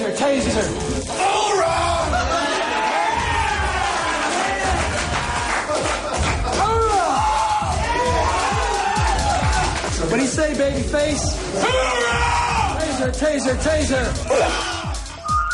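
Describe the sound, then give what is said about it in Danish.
A rowdy group of people shouting, jeering and cheering over one another as people are shot with a taser, taunting those who show pain and cheering those who take it silently; loud, overlapping voices, whoops and bellows without a pause. “De råber højt. De håner hinanden, hvis nogen viser smerte. Og jubler af dem, der tager skuddet uden at kny.”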